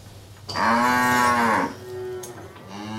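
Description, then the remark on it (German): A cow lets out a long, loud moo lasting about a second, then trails off into a softer, lower lowing over a faint rural background hum. “Auch deswegen liegt man hier so glücklich an der Kuh.”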